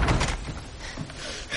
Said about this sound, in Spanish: Martha abre la puerta de la habitación de Colin.